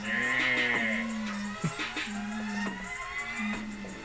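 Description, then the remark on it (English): A cow moos in one long, low, drawn-out call that holds steady for several seconds, fairly loud, with no talking over it. “What does the cow say?”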